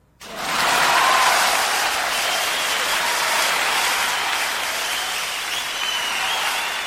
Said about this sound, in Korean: 장례는 온통 글로는 표현할 수 없을 만큼 감동의 박수갈채로 떠나갈 듯했고